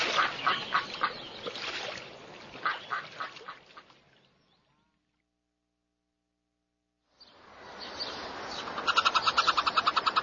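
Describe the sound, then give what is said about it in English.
A flock of ducks and geese quacks and honks in busy overlapping calls on a pond in a city park, fading out into a few seconds of silence before the loud, noisy chorus returns. “Geese and ducks live in cities. They swim in ponds in parks.”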